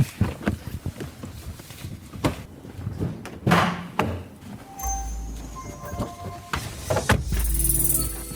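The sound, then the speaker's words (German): Footsteps and shuffling movement as someone walks to the front of a car, then a solid thunk of the driver's door shutting as they get in behind the steering wheel, followed by muffled interior rumble and faint tonal hum with a brief closing thud near the end. “Man hört es, wir sind vorne angekommen, Tür zu.”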